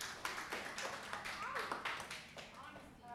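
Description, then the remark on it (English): A small crowd at a show applauds with scattered, irregular claps, fairly soft, while voices talk over the clapping. “Yeah, let's get an applause for them. Give them an applause.”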